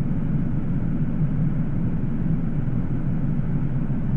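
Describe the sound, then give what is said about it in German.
A steady, loud low-pitched roar of an airplane in flight, a constant engine drone with no breaks or voices for the whole stretch. “Für die maltesische Nationalmannschaft ging es daraufhin in Rotterdam ins Flugzeug, um 4 Tage später das nächste Auswärtsspiel gegen die Spanier in Sevilla zu bestreiten.”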